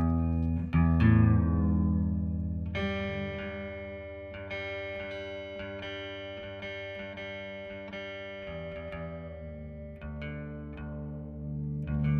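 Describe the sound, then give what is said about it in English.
A guitar being retuned to open G by Gary Clark Jr., performing solo in the studio on Soundcheck: single strings plucked and left ringing, with the pitch sliding and settling between strums, over about twelve seconds with no talking. “You know, while Gary does that, you're sort of anticipating a question I was going to ask you, Gary, when we were done with this next song, which was whether you're playing in standard tuning. No. The answer is obviously no. Open G.”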